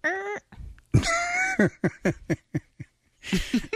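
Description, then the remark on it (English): A voice imitates a cat with two high, squeaky meow-like cries, followed by a choppy run of short chirps and squeaks, moderately loud. “You hear it squeak.”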